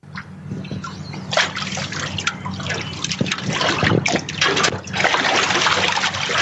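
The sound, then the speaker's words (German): Gentle waves of the Nile river lap and slosh against the shore of Kursaia island near Cairo, Egypt, at dusk, in steady, irregular splashes, moderately loud, with a low steady hum underneath and no voices. “Abenddämmerung auf Kursaia, eine Insel mitten im Nil, dessen Wellen ans Ufer schlagen.”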